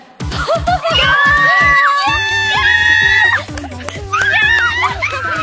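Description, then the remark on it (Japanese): Loud, high-pitched squeals of excitement from several audience voices, rising and falling in long shrieking bursts, with a brief dip midway before the squealing surges again. “黄色い声が上がっております。事件性のある悲鳴が、声が届きましたけれども、よかったです、そんな喜んでもらえて。”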